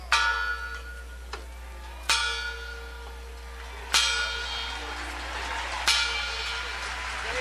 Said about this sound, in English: It was exactly 3 p.m. yesterday afternoon when the family of Martin Luther King Jr. rang a bell to echo King's call 50 years earlier to let freedom ring.